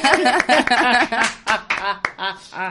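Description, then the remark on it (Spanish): A handful of sharp, irregular hand claps cut through steady, melodic voices that carry on throughout, the claps loud but brief and partly buried under the vocals. “Le aplaudimos con sí.”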